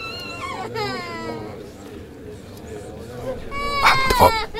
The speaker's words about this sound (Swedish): Värst var den där ungen sitter och bölar hela tiden. Kan inte föräldrarna få tyst på den? Jätteirriterande alltså.